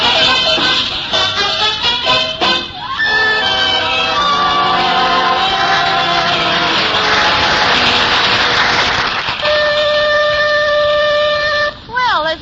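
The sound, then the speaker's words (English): A loud factory whistle, the 5 o'clock whistle, blows with steady, pitched, sustained tones, preceded by a busy mix of swooping and held notes that fill the whole clip. “The 5 o'clock whistle.”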